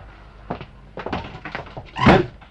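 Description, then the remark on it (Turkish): Several dull knocks on a wooden door come in an uneven series as a visitor arrives, moderately loud, ending with a heavier thud; no one speaks. “Kapı çalınıyor.”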